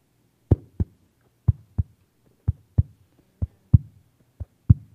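A baby's heartbeat recording: steady double thumps repeating about once a second, each pair a deep lub-dub, over a faint low hum with no voices.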